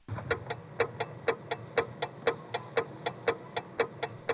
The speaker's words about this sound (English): And I like the relay clicks on the coin phone, too. Here's one of the 1973 coin phones, clicking along with a supervision test.